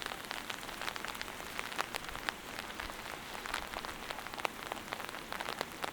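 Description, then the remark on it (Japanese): Steady rain patters on an umbrella overhead, a dense, continuous hiss broken by many sharp drops tapping at irregular intervals. No one speaks. “実はさ、一緒に雨を歩いた時も、相合い傘したかったんだよね。”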